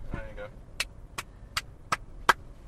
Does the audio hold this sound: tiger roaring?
no